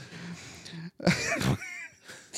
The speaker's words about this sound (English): Did you just snort on air? Yeah, you did.